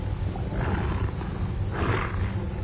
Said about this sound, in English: Did you hear that? Oh, I heard that. It's dogs! It's the blood! They've been drawn by the blood!